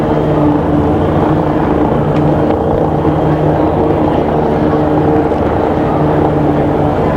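A loud, steady airplane engine drone fills the cabin, a constant low roar with a faint tonal hum that never rises or fades, and no voices over it.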